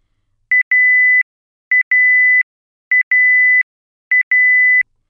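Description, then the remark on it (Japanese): A grill's buzzer beeps in four identical bursts, each a few quick pips followed by a longer steady tone, repeating evenly about once a second, signaling the end of its cleaning function, which runs up to 20 minutes. It is loud and clear, with no voices. “7、最長20分でブザーが鳴り終了します。”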